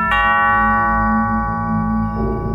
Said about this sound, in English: Then the doorbell chimed.